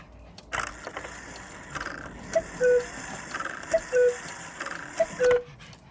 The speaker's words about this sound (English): No, I'm sorry. It's not realistic at all. The cuckoo bird doesn't go cuckoo. It goes cuckoo. What you've got there is a cuckoo clock.